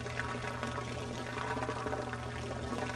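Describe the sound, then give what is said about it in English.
Gray water from a washer-dryer in a shed out back drains in a steady, rushing pour that holds an even level throughout, with a low mechanical hum underneath; the laundry water carries soap, hair and lint down the drain. No one speaks. “This is the most common type of gray water, and in most homes, mine included, it disappears down the drain.”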